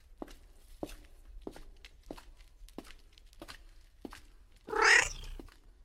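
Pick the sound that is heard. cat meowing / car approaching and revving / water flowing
cat meowing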